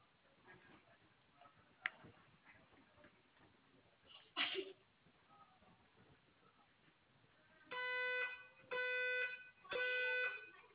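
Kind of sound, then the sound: signal or alarm, fire alarm sounding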